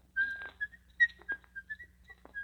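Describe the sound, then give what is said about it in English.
A man whistles a jaunty tune, a string of short bright notes with quick slides and brief gaps, over a faint low hum in the background. “And don't whistle.”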